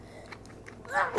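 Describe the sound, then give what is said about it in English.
A single quick sneeze bursts out near the end, fairly loud, following a few quiet, soft shuffling sounds. “Bless you.”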